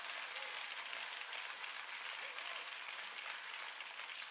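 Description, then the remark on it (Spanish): A crowd applauds steadily throughout, a dense, even wash of many hands clapping, with no single claps standing out and no pause. “Si vas a aplaudir, hazlo bien.”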